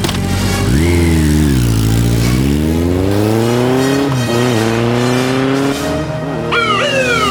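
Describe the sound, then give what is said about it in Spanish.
A loud motorcycle engine revs and then accelerates, its pitch climbing steadily through the gears as it speeds away, with no voices over it. “Discúlpeme, señora, pero voy a tener que pedirle prestada su motocicleta.”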